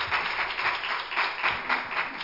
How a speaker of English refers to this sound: Love the Lord this morning with a hand clap of praise.